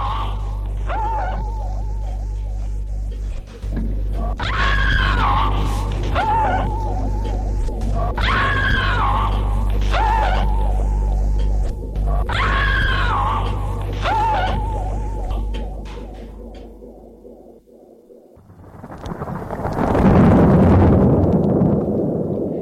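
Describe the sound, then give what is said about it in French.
A woman screams in terror, crying out no, her cries rising again and again over a low, rumbling drone before a loud, noisy burst of thunder cuts in near the end. “hurle, non!”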